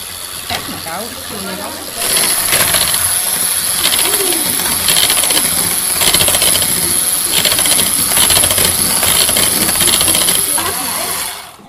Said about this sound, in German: Jetzt gibt es ein bisschen Lärm, jetzt lassen wir den Mixer an.